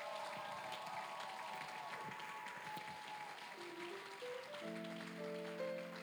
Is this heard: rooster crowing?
no